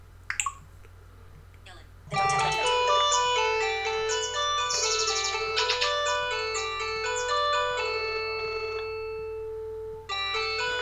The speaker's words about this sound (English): Okay, and my phone's ringing, so I just answer the call and say hello as usual, and then hang up.